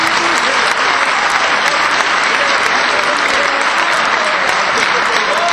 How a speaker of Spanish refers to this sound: Vamos a darle, claro que sí, el aplauso para estas chicas.